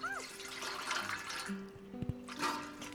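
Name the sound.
water being poured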